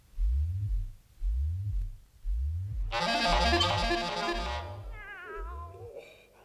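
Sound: cat purring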